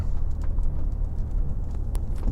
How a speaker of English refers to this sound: And nothing the truck can't handle, of course, but with a heavy load, I want to drive a little slower, make sure I don't ruin my shocks in the truck. So I'm going to take my time